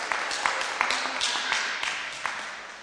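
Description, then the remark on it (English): A church audience claps together during a sermon in a steady, dense patter of overlapping hand claps, with a few sharper claps standing out, and no voices over it. “Yeah, you can clap.”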